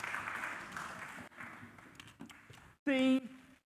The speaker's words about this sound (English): Can I have a round of applause for all my helpers?